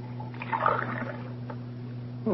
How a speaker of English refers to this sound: Sure, and I see you're careful about how you run the water. Well, it's precious right now. Oh, it sure is.